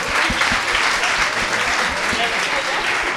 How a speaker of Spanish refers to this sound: Un aplauso, por favor. Un aplauso para ellos.